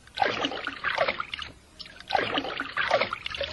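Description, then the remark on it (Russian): Water splashes and churns in two bursts of sloshing, swirling noise as a darter bird dives and swims underwater, with a short lull between them and no voices. “Я хорошо умею плавать под водой. Ты умеешь нырять?”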